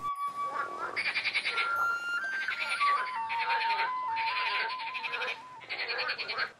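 Frogs croak in a pond in a run of rattling, pulsing bursts that come one after another at moderate loudness, with a soft, steady melodic tone playing beneath them.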